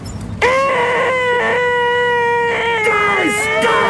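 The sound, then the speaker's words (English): A voice imitates the cloying, shrieky noise Data makes every time he runs into the workmen: one long, loud, nasal whine held steadily for several seconds, with slight wavers in pitch but no break and no words. “And every time Data runs into these dudes, he'll open his mouth, and a very cloying, shrieky noise comes out of his mouth.”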